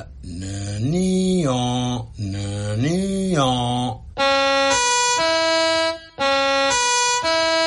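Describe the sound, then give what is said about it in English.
A loud siren, one written by siren writer Lawrence Dunton House of Manchester, rises and falls in two quick wails, then switches to a steady two-tone hi-lo pattern that alternates back and forth with no talking over it. “Do you know every siren in Europe? Well, I wrote that one, so I should know it.”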